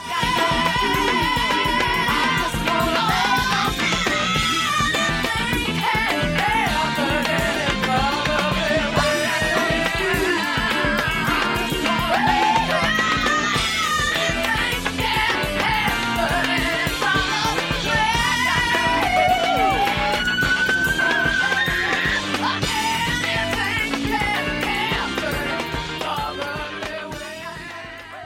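A full-band song with guitar plays loud and steady throughout, a sung melody weaving over dense instrumentation, before easing into a fade near the end.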